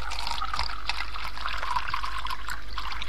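A brook trickles and babbles steadily, a continuous bright gurgle of moving water at moderate volume, with no voices.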